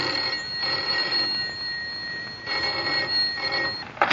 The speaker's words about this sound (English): Yet the trouble first appeared as the commonplace ringing of a telephone.